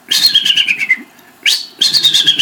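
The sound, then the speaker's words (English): A person imitates the chirps of an eagle named Challenger: bursts of high, rapid, slightly descending twittering calls, loud and shrill, with a brief pause before another rising burst of chattering notes. “And we chirp at each other. I can do Challenger noises.”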